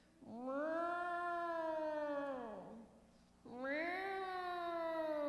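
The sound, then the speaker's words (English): A cat lets out two long, drawn-out mournful yowls at night in a cul-de-sac, calling for another cat, each rising then sagging in pitch, separated by a brief pause; loud with no other sounds. “And the next night, in our cul-de-sac, at the end of it, I could hear this sad, sad, mournful cry.”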